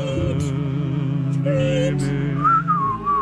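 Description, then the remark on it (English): A whistled melody rises clearly above a full musical backing in radio bumper music on My Talk 107.1, the tune gliding between sustained notes with bright, steady tone and no voices. “A period of time where there was a lot of whistling in our bumper music.”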